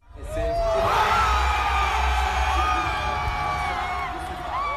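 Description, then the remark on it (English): A large crowd cheers and whoops continuously in front of the Louvre Museum in France at night, as presidential election results are announced: a dense wash of shouting voices with rising yells and whistles over a low rumbling roar, loud and sustained throughout. “You're hearing crowds cheering last night in front of the Louvre Museum, where the results were announced.”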